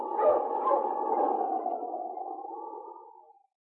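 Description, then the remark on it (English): A dog, King, gives one long, drawn-out bark that stretches into a wavering, howl-like cry, fairly loud, slowly fading after about three seconds with no talking. King barks in recognition as a friend approaches the wooden bridge over the Manalek River in the Yukon. “As he saw a friend coming from the opposite direction, King barked in recognition, then turned to the mountain.”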